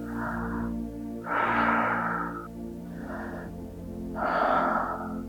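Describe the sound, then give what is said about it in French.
Two slow cycles of deep, airy breathing during a breathing exercise, each long inhale from the belly filling the chest, followed by a long exhale, fairly loud, with no talking over them. “Encore deux.”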